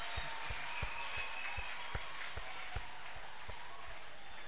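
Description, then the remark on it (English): A church audience claps hands together for the Lord in a steady, fast rhythm, a dense wash of many palms with sharper individual claps standing out, fairly loud and continuous throughout. “Let's clap for the Lord.”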